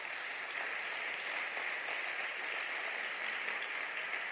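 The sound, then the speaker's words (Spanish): A church audience claps steadily for several seconds during a sermon, giving an applause to the King (God), a dense, even wash of many hands with no pauses and no voices rising above it. “Un aplauso al rey.”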